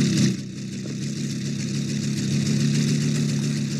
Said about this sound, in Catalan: Comença a fer-se de nit. L'Andreu va en moto per una carretera amb molts revolts.